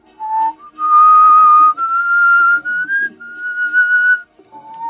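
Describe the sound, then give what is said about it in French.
A person whistles a slow, sustained melody, holding long steady notes that glide gently up and down, fairly loud with no talking over it. “C'est pas évident à siffler. C'est long.”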